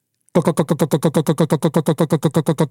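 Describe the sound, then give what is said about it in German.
A voice imitates a pulsar radio signal, as picked up by radio telescopes and played back as audio, with a loud, steady train of rapid buzzy pulses, about six per second, evenly spaced and unchanging in pitch, sounding distorted and mechanical. “mit Radioteleskopen auf einmal Signal gehört, wenn man das auf einer akustischen Band ausgespielt hätte, ein Radiosender, ja?”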